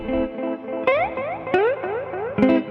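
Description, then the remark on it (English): Electric guitar played through a Benson Echo Rec delay pedal emulating a tape echo, sharp picked notes at regular intervals spawning repeating, pitch-warbling delay trails that overlap into a dense, rhythmic wash. No voices. “Because that Echo Rec's trying to get after a tape echo, right?”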